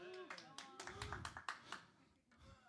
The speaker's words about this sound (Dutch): Je mag me best aanmoedigen met applaus.